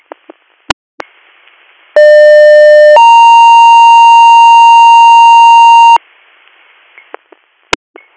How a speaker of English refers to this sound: Do you want additional tones for your ambulance?